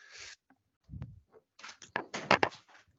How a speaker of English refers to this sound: So hold on just a second. Let me close this door. My dog's going to keep running in.